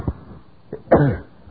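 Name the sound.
sneeze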